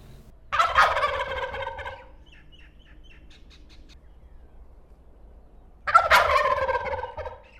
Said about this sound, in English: And most of our listeners in the country will probably have heard the loud, unusual, gobbling calls of the wild turkey.